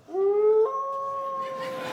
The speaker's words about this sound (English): Do you know there's places in Canada where if you're very quiet, you can hear the distant call of a wolf?